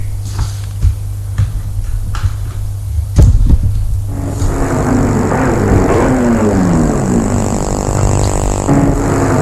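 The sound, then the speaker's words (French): A car engine approaches and rumbles, its pitch shifting as it slows and pulls in to park in the grounds, over a steady low hum; no one speaks. “On entend une voiture qui vient se garer dans le parc.”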